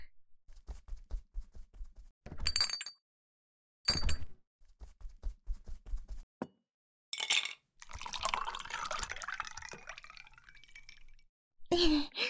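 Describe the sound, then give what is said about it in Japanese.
A few soft taps and clinks of glassware, then cold tea pours steadily into a glass for several seconds in a bright, splashing stream, finishing with a sharp clink. “おそうだ、飲み物を用意するから。”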